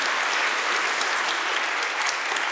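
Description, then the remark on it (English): A crowd at St. Andrews applauds a student speaker steadily, a dense wash of many hands clapping at once, sustained and fairly loud throughout with no pauses and no voices rising above it. “Clap it up.”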